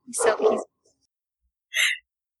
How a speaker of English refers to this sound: Also, in case you can't hear, the dog says hi. Hi, Tessie.